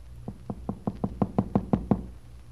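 A steady series of about nine firm knocks on a wooden door, evenly spaced and growing slightly louder, heard close up with no voices.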